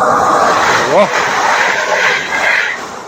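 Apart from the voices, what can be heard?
train passing by loudly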